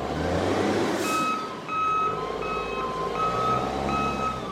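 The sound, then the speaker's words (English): Loud, repeated reversing beeps from a container handler at a port in Colombia, steady tones pulsing about once a second over a thick rumble of diesel engines and industrial clatter, as the machine grabs a shipping container off a stack and sets it on the ground next to a ship. “At the port in Colombia, a big bulldozer of a machine grabs the container with the Planet Money shirts off a stack”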